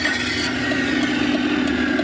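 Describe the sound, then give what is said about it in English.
A car's combustion engine runs steadily and loudly, a continuous buzzing rumble that holds an even pitch without revving, with no voices over it. “To pretend to be a combustion engine vehicle?”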